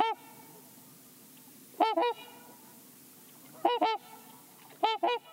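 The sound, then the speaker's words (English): Trumpeter swans call in loud, nasal, horn-like honks, often in quick doubled pairs, coming in separated bursts over a faint steady background hiss, with no one talking. “Trumpeter swans call out to locate each other or defend their territory, a melancholy sound.”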